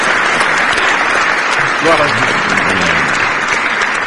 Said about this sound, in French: Parce que, oui, applaudissez-le. C'est un grand, grand serviteur.